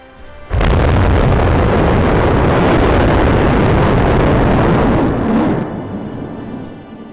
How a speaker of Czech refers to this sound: 27. června pak nastal statický zážeh Starship 25, která zapálila všech 6 motorů Raptor.